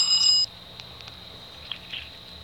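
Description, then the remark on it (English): A short, bright electronic phone ring tone of an incoming telephone call sounds once at the start, then cuts off, leaving a faint steady high whine and a few soft clicks with no one speaking. “We do have, for the first time ever, a telephone call here on the Life from the Pulpit program.”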